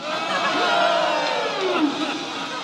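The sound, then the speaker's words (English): A big crowd at a Flying Fathers game on the ice cheers in a steady, loud roar of many voices that holds for a few seconds, with occasional louder shouts rising out of the din. “And the crowd loved it all.”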